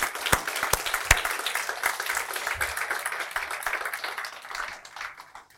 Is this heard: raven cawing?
no